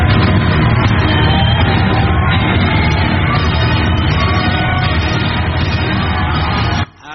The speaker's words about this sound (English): standing ovation and a round of applause. Can we all welcome Reverend Dr. Junior Omomo?